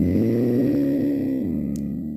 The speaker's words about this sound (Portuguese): É um urso? Não. Ai, credo. É um felino de grande porte. Isto não é um leão. Mais ou menos. Também não é um lince. Não. É um lince. É um lince, ok. Oh, bom, é um lince.